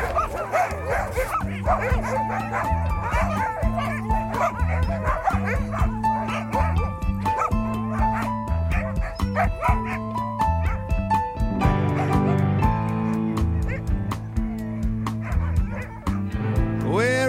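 A pack of sled dogs barks and yips nonstop, many overlapping voices, with high whines and yelps mixed into a loud, dense chorus for the whole stretch.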